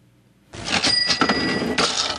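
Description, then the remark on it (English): A loud AOL-style door sound effect: an abrupt, bright swoosh with a thin whistling ring running through it, surging again near the end, with no talking. “Oh, I remember the door.”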